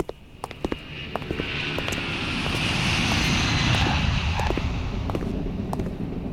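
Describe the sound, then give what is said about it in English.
A propeller airplane engine drones steadily louder as the aircraft approaches and arrives in 1946, a broad roaring rumble with whooshing wind noise and a few sharp clicks, no voices present. “Strike up the band the moment the director exits the plane.”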